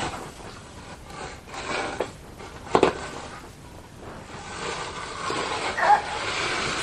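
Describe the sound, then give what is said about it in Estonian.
A child drags a wooden chair across the floor, which scrapes and rumbles in an uneven, continuous drag, with a couple of louder knocks and bumps along the way. “Kuule, ära sõida sellega mööda tubaringi, tegelikult.”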